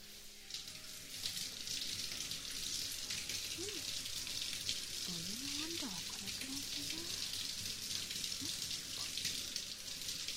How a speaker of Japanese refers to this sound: 僕の全身にタオルをかぶせて、その上からシャワーかけていきまちからね。